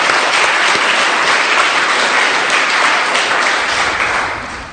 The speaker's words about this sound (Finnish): Annetaanko vielä ihan rohkaisu aplodit?